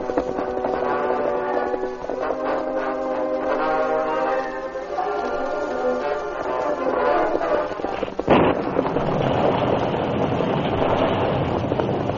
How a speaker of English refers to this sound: A sudden storm came up before the Lone Ranger and Tonto reached their destination.